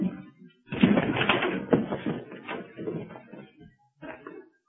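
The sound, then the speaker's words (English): A door being forced open: a loud run of banging, rattling and scraping clatter lasting a few seconds, then a short final burst of knocking after a brief pause. “Help me with this door”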